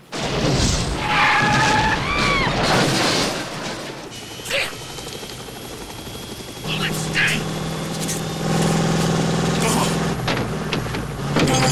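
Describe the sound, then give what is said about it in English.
Loud, chaotic action scene on a freeway: cars blow up in bright orange fireballs with heavy booms and crashes while rapid minigun fire rips up the road, over a constant roaring drone like a helicopter overhead and screeching traffic. “Car cars explode in bright orange fireballs as the minigun rips up the freeway.”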